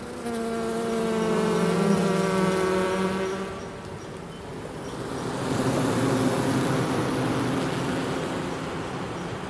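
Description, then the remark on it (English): Honeybees buzz around an opened hive during a hive inspection at Aspen Ridge Greenhouses, in a dense, continuous hum, fairly loud, the droning pitch wavering and swelling as insects move past, with no voices. “Buzz buzz!”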